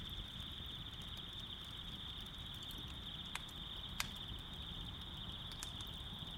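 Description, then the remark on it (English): A quiet, small outdoor campfire by a cabin, ringed with red bricks: soft steady hissing with a few sharp, isolated crackling pops, while a constant high-pitched insect-like trill runs through the background. “I've made this campfire in the same place, just by my cabin, for as long as I can remember.”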